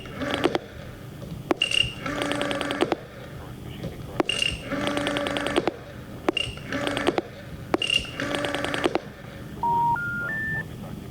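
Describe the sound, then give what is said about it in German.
Telephone dialing and line tones as an operator tries to put a call through: sharp clicks and repeated buzzy tonal bursts, then three short beeps rising in pitch, a phone network's error signal as the connection fails, clear. “Moment, ich verbinde. Die Verbindung kommt nicht zustande.”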